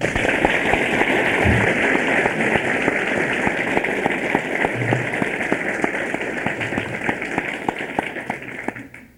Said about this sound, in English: But for his work and time that he has spent for the young people of our country, I think we owe him a round of applause. And I introduce to you now Senator Vic Atiyah.